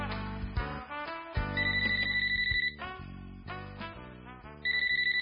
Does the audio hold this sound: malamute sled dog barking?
no